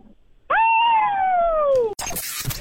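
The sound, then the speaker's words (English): Two people, on a count of three, imitate wolves to win tickets, with one long, loud howl that rises quickly and then slowly slides down in pitch for about a second and a half. A sudden burst of harsh, noisy sound follows. “Both, on the count of three, have to howl like wolves, and then you get the tickets.”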